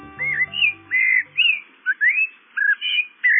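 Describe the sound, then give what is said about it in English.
A Eurasian blackbird sings a flowing series of clear, fluting whistled phrases, about eight in quick succession, fairly loud, with a brief low musical tone fading at the start. “It's the song of the Eurasian blackbird.”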